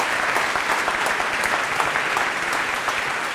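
A hall full of people claps steadily, a dense, even wash of applause with scattered sharper hand claps standing out, sustained at a fairly loud level without any talking.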